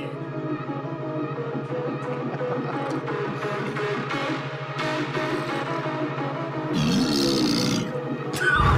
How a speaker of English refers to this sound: That was kind of a fart.